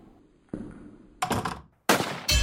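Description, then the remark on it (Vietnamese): Four sharp, heavy gunshot-like bangs strike at uneven intervals, each with a short booming decay, loud, with no voices around them; the gunshot in Hitler's bunker on 30 April. “Nghe tiếng súng, cấp dưới của Hitler chạy đến.”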